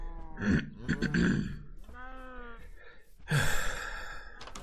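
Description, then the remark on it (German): A person clears their throat in a couple of rough bursts, lets out a short voiced grumble, then gives a long, breathy, exasperated huff. Fairly loud, with no talking. “Bitte einmal Räuspern und genervt schnaufen.”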